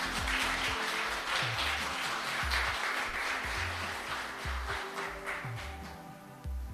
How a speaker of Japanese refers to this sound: 私たちと同じ新成人の3人にメッセージを発表していただきました。同じ思い、共感できる部分も多かったのではないかと思います。発表してくださった3人の方に今一度拍手をお願いします。